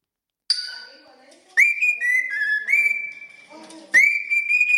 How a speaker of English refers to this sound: Yeah, the parrot singing. There's a reason why. What the fuck? That's the coolest thing I've ever heard. Do you know what though? I think it's a glycocatoo, and they are very clever.